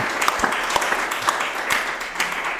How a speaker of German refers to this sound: Ja, vielen Dank, lieber Abt Nikodemus Schnabel. Also wir danken Ihnen erst einmal herzlich. Vielleicht auch einen Applaus.